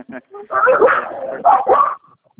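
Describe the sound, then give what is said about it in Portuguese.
Dogs bark close by during a phone call on speakerphone, a quick, loud run of sharp barks and yips that blur together for about a second and a half, then drop away to near silence. “Só aí de perto dos cachorros aqui também.”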